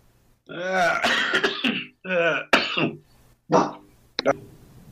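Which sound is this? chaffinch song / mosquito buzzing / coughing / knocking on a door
coughing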